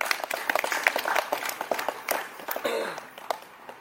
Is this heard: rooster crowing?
no